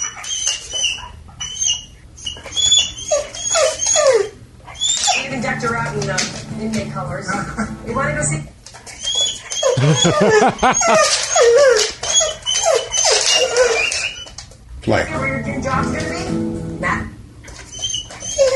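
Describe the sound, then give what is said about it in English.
A dog in front of a TV whimpers and whines repeatedly in high, wavering cries, upset because the TV program has been paused, with a brief spoken word near the start and steady background sound throughout. “this guy did post a video of his whimpering dog who's in front of the TV”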